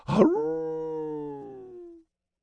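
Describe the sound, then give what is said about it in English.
A long, mournful wolf howl rises from a rough, noisy start into a steady sustained tone lasting about two seconds, loud, with a slight wavering near the end before it cuts off. “The sound could only come from a legion escorting the Reaper. The howling of wolves.”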